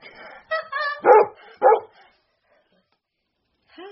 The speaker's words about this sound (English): Dog. Good.